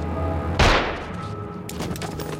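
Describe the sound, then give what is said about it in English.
A single sharp, loud pistol shot cracks out on the tarmac between stationary cars, hitting a cab driver in the forehead; its echo fades over a steady low background hum, followed by some fainter scattered noise. “The scruffy, bearded cabbie slumps to the tarmac with a gunshot wound to his forehead.”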